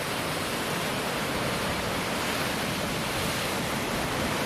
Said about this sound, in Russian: Да. Хотя и у нас тут тоже, в общем-то, какие-то волны имеют место быть. По камням тут растекаются. Красиво.